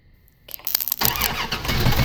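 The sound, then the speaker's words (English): A car being hotwired, with a solenoid starter, cranks with a quick rattling starter for about half a second, then catches and roars into a steady, loud idle. No one speaks. “I'm hotwiring Dad's car.”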